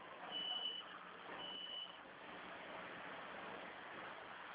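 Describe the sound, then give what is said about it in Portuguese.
A bus rumbles past outside, a steady broad roar that is loudest at the start, with two short high beeps sounding early on. No one speaks. “é porque passa um ônibus aí, é o barulho, aí eu fico sem.”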